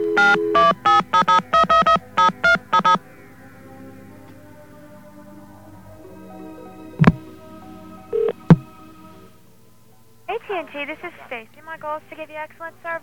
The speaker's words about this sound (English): Let's grab a dial tone here. Oh, thank you, there's one. And let's call up a long-distance company.